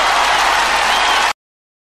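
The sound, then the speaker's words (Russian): Dense, steady studio applause from many hands greets a guest guitar teacher from the Gitartek school, filling the first second and a quarter at a loud, even level, then cuts off abruptly into silence. No one speaks. “Здесь прям должны быть аплодисменты, я думаю, даже после такого представления.”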